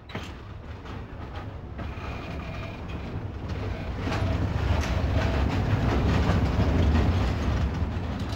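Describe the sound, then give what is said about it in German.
A train departing a station for Italy rumbles along its rails with steady rhythmic clacking of wheels, the sound growing louder and fuller partway through as it picks up speed, continuous with no talking. “Als der Zug abfährt, sieht Albert nicht aus dem Fenster.”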